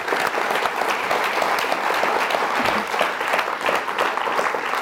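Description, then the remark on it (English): An audience claps steadily for several seconds for the event organizers, the Los Angeles Library and Aloud, a dense, even wash of many hands at a consistent loud level with no voices standing out. “And I'd like everybody to give the organizers some applause.”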